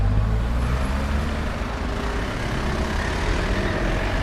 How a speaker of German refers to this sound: In Bad Homburg im Taunus schiebt sich ein Auto nach dem anderen auf die Kaiser-Friedrich-Promenade am Kurpark.